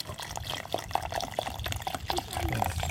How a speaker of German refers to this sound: dann gießt Alexander das colafarbene Wasser vorsichtig oben auf die Kieselsteine in den Filter